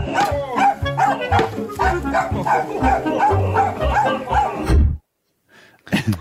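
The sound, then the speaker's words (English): A dog in a video barks repeatedly in quick, yappy bursts over busy circus music, fairly loud, before everything cuts off abruptly, leaving a brief silence and a short faint sound at the end. “It's a dog doing something.”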